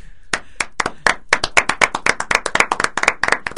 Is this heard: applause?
yes